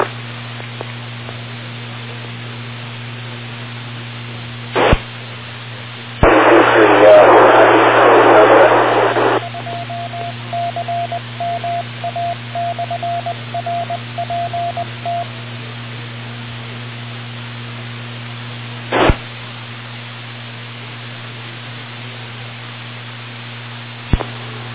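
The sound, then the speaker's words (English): Noisy amateur radio transmissions: a steady hum with sharp clicks, a loud burst of static lasting a few seconds, then a rapid string of short, even beeps, with no voices. “Okay, a couple of noisy transmissions in there.”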